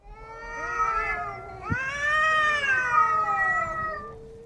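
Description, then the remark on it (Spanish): Two stray cats in heat yowl and caterwaul in a vacant lot in long, wavering, overlapping cries that rise and fall continuously, loud, with a brief thump partway through and no talking. “En periodo de celo se oían los característicos chillidos de los gatos, sobre todo el maullar de los gatos en noches de lluvia o de vientos fuertes, hacía que los vecinos se pusieran aún más nerviosos.”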